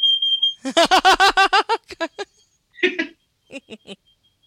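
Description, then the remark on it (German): A voice imitates a smoke detector, starting with a sustained shrill electronic beep. A rapid burst of harmonic chirps follows, then a few scattered squeaky calls. Fairly loud, with no speech. “Manchmal habe ich als Lieblingsgeräusch einen Rauchmelder. So, da fallen auch viele manchmal mal auch drauf rein.”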